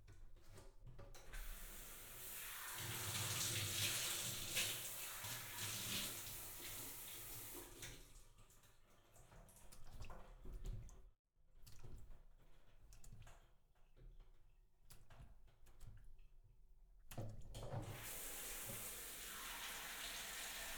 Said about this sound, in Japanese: シャワーで軽くお流しします。